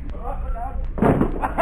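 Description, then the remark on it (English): A man crashes through a wooden door with a sudden loud splintering burst of noise that follows a stretch of muffled voices and then rattles briefly before fading. “Say, Ben Grauer, bring that wooden door over here, will you?”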